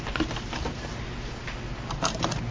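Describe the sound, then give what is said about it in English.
Crisp crackling and rustling of an old paper, over 40 years old, being unfolded and handled, with a few sharper crinkles scattered through steady soft rustle and no voices. “This is an old paper.”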